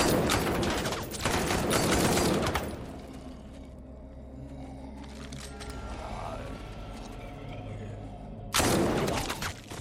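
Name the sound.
volley of gunfire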